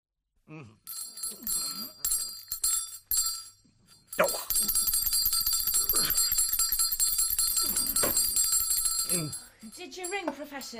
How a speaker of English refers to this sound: In fact, I have been ringing for several minutes. I'm sorry, sir. I didn't hear the bell.